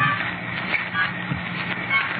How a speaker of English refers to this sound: Here, yeah, there's rain, like it was that other New Year's Eve. That's what the rain makes me think of, as if I ever thought of anything else.